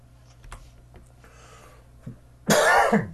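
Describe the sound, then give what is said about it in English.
A single loud, harsh cough bursts out near the end, after a short throat sound and a few faint clicks in otherwise quiet surroundings. “I don't know if coughing violated my duty of care to your ears, but I did it anyways.”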